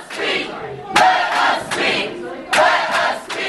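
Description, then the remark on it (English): A crowd of protesters at a Budget Committee public hearing chants loudly in unison after people waiting to speak were told they could no longer sign up, with strong rhythmic bursts of shouted voices recurring roughly every second over a steady roar of crowd noise. “Those chants eventually died down.”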